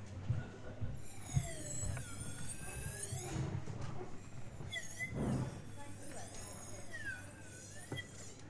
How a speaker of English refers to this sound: This is going to be a straw in a glass of water. If I picked up the right glass, it might help. Right. And because water's thinner, it sounds different. So this is the water.